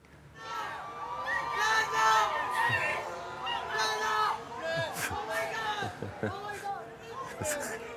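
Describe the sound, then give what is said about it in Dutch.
A lively crowd of spectators cheers and shouts, many voices overlapping in a steady, fairly loud roar with occasional sharper whoops standing out near the end; fans gathered at the spot where Lando Norris's car retired during the Canadian Grand Prix. “Als je toen goed oplette, zag je dat daar behoorlijk wat publiek zich ineens ging melden op het punt waar hij uitviel.”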